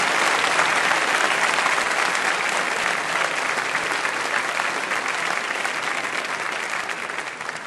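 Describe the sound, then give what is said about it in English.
Sustained applause from an audience thanking the participants after a debate, a dense, steady wash of many hands clapping at a loud level, tapering off slightly toward the end. “I just want to thank them and the round of applause for what they did here.”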